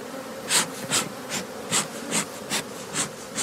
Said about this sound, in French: On a oublié un personnage super important, c'est les abeilles.